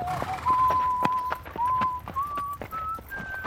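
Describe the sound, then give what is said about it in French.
Horse hooves clip-clop in a steady, even rhythm while someone whistles a simple, slowly rising tune over the top. “Avant d'enlever vos écouteurs et de partir sifflotant sur votre cheval au soleil couchant”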